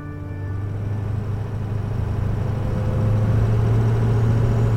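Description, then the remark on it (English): A truck's steady, rumbling engine hums along at constant speed as it drives into Atlantic City on a mid-August morning, with road noise and a low drone swelling slightly louder toward the end. No one speaks. “So this most recent summer, I rolled into Atlantic City, this time in a truck on a mid-August morning.”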